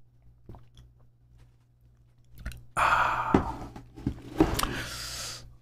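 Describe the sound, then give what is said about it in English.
Someone drinks a big glass of water: after a few faint clicks, a run of wet gulps and swallows comes in with breathy, sighing exhales between sips. No one speaks. “Let me drink some water first, then I'll finish this question.”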